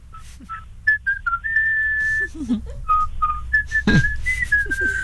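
A woman whistles a bouncy pop melody, a run of short notes and longer held tones with brief pauses, over a faint low background hum.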